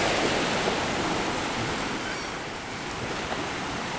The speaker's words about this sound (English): All right, it's a bit windy. You can see the gulls riding the currents of air above the waves.